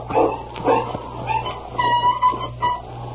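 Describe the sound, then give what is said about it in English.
A dog with its foot caught in a trap yelps and whimpers in distress, several sharp high-pitched cries in quick succession over a steady low hum, fairly loud. “What? It's a dog. Sounds like he's in trouble.”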